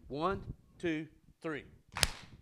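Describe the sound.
A voice counts out "1, 2, 3", then an audience claps together once on three, one sharp, loud, crisp smack that rings out briefly before silence.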